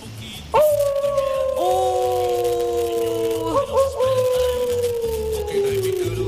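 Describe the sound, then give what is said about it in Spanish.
A pet dog howls in one long, drawn-out wail that holds steady and slowly sinks in pitch, fairly loud, over a low background hum. “estoy acompañado de una de mis mascotas, mira, escucha.”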